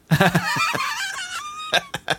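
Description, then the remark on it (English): A novelty chicken song with loud, squawky clucking and crowing-like calls in quick bursts, ending in a few sharp, choppy hits. “we all know that chickens love singing about farmers.”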